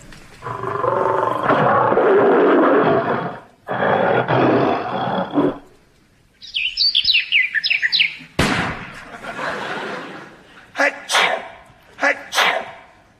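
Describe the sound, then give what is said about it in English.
A voice imitates a British lion's roar in two long, loud, rasping bursts. Chirpy bird-like whistles for Tiger Woods shooting a birdie, a sharp crack and two sneeze-like bursts for a double bogey follow. “This is a lion.”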